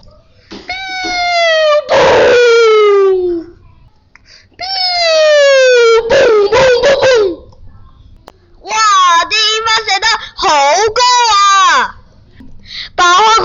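Fireworks set off in a hometown in China: shrill whistling tones glide downward in pitch, each ending in a sharp crackling burst, followed by a cluster of rapid warbling whistles that rise and fall before trailing off.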